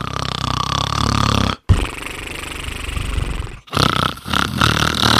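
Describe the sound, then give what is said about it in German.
Loud, rough snoring of garbage bins, in three long rasping breaths separated by brief pauses, with a deep growling, roar-like quality. “Die Mülltonnen schnarchten laut.”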